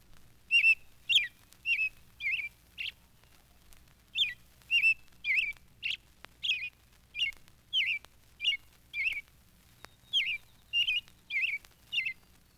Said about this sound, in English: And here is Perky, the Pekin nightingale, or Japanese robin. His habitat is western China. Perky sounds very much like our own native robin.